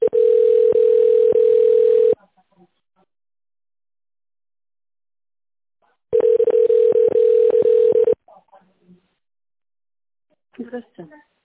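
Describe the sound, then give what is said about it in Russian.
A telephone ringback tone sounds twice while a call is being connected to an operator after a phone menu, each steady ring lasting about two seconds with a long silent gap between, fairly loud and clear, followed by faint brief fragments of a voice. “Соединяю с оператором.”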